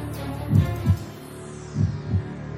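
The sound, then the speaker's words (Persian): A low, thudding heartbeat plays alone in a steady lub-dub rhythm, two double beats about a second apart, deep and muffled over a faint background hum. “صدا رو میشنوی؟ قبلا هم شنیدمش. صدای ضربان قلب.”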